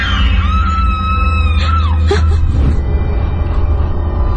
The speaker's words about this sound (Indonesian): tiba-tiba saja terdengar suara teriakan. Awalnya kukira itu saudaraku.